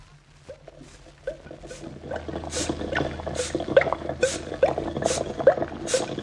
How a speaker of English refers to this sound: All the bubbling and sizzling and hissing noises out there.